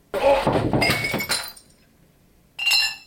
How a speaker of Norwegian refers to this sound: Nå skal jeg i hvert fall velte glass.